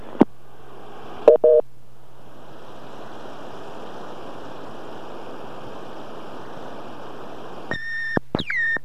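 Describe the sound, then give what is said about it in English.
Short electronic beep tones from a Phone-Mate answering machine on a call going through a PBX sound over a steady hissing phone-line hum, with a quick pair of beeps early on and a cluster of sharper, rising-and-falling tones near the end. “Okay, this is going through the PBX. The phone mate works just fine.”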